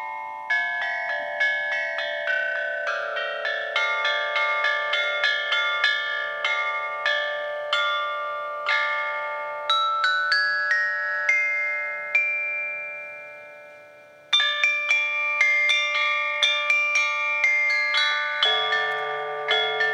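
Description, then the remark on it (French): Ancient Chinese copper chime bells, an instrument of ancient Chinese music, struck one after another in a steady melodic line, each clear metallic tone ringing and overlapping the next, played fairly loud with no voices. “C'est l'instrument de la musique ancienne chinoise et c'est le ding-dang-dong pour nous.”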